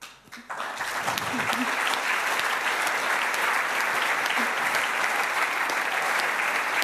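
Sustained audience applause, a dense, even wash of many hands clapping that swells quickly after a brief quiet start and holds steady at full loudness throughout.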